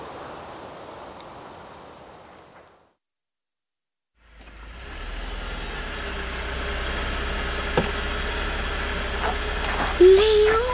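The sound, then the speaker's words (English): A car sent to collect a guest arrives at a mansion in Surrey; after a short silent gap its engine idles with a steady, low rumble that continues to the end. A faint higher whine appears near the close. “Well, thank you for sending such a lovely car.”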